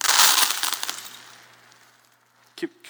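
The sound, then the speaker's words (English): A burst of metallic coins clinking and spilling, loud at first with many bright overlapping chinks that thin out and fade, followed by a brief thump and a faint voice at the end. “Okay, that's quite a bit of coins that you can handle.”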